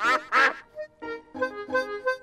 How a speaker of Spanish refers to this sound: Los patos nadan en su estanque. Están muy felices.